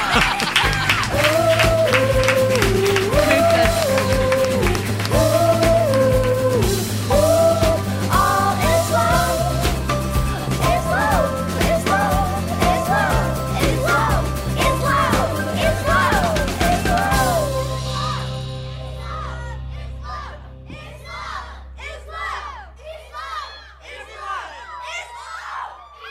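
An audience applauds and cheers loudly and steadily over a melodic tune for about seventeen seconds, then the noise drops away, leaving softer scattered high chirps and whistles.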